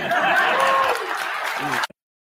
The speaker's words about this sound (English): First of all, why are they clapping? They're clapping.